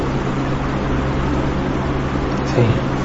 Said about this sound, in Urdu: پنکھا تیز ہے